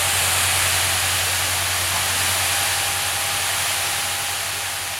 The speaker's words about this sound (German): Im Saarland treffen jetzt Feuerwehrzüge aus vier verschiedenen Wachen der Umgebung ein. Schon Minuten später sprüht das erste Strahlrohr auf die vermeintlichen Brandnester.